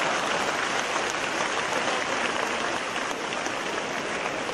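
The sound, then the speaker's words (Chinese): An audience applauds steadily for several seconds, a dense, even wash of many hands clapping at once with no voices on top and no break in the sound. “鼓掌的了。”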